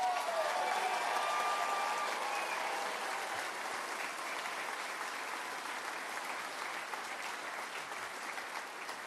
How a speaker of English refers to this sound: My mom passed away in 2009. Please give my mother a round of applause.